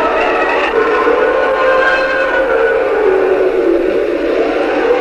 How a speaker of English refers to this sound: Then the floor creaked.